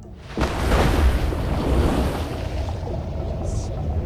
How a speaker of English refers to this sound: Eyes closed, she jumps full length into the water.